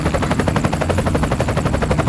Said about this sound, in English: A 2015 Augusta A-119 helicopter. You can own your very own helicopter.